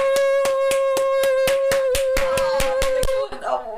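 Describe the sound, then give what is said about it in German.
Loud, steady rhythmic clapping at about four claps per second over a sustained humming tone, ending abruptly after roughly three seconds. “Hol ein Applaus.”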